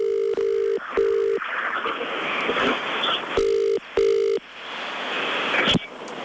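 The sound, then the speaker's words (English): An outgoing telephone ringing tone sounds in the UK-style double-burst pattern, two pairs of steady tones separated by a pause, over a hissy, noisy line with no one talking. “so we're going to give her a call now.”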